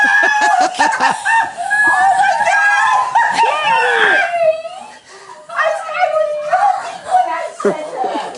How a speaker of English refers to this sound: Oh, man. Look at the love for that dog. They either got a dog or they're being massacred. He's got a dog! Oh, they're so pumped.